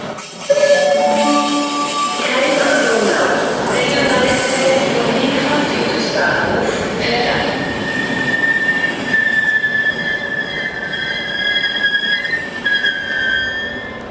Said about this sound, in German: Jetzt bin ich hier am Bahnhof.